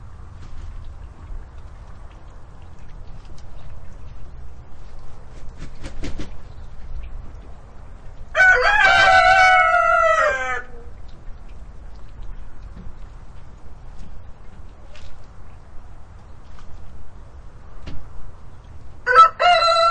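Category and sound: bird, roosters crowing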